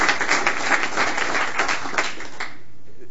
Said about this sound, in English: Round of applause for both of those gentlemen.